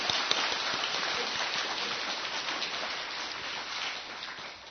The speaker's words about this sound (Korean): 몸된 교회 이렇게 다가오셔서 또 귀한 말씀으로 섬겨주시면 우리 감사하는 마음과 또 그런 마음으로 박수해 드리도록 하겠습니다.